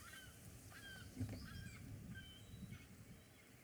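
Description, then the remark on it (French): Gulls calling repeatedly, short nasal cries overlapping one another against a steady low rumble of outdoor background noise, with no speech. “Tiens, des goélands.”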